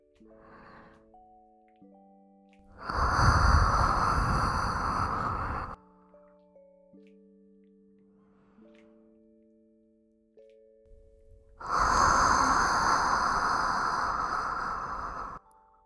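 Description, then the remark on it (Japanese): Two long, loud, warm breaths blown into the ear, each a rushing exhale of about three seconds, separated by a quiet pause, with soft sustained tones underneath. “お耳も温かい吐息が当たって、気持ちいいでちゅ。”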